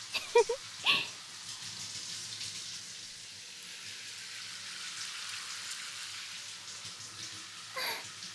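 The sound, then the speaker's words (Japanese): Shower water runs in a steady, broad hiss for several seconds while someone's hair is rinsed, with a few brief knocks and splashes at the start and another burst near the end. No one speaks. “ほらこうやって丁寧に頭触られるわけだし、若いギャルにシャワーしてもらってるって思うだけでなかなかいいだろうからな。”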